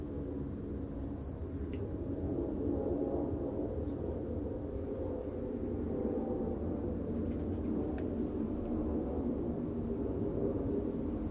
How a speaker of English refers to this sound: Ah, I wonder how a big jet sounds from within the shed. Amplified, no doubt.